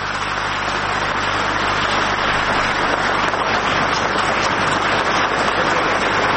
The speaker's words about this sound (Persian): تشویق حضار رو میبینیم برای آقای پنس، معاون ریاست جمهوری امریکا.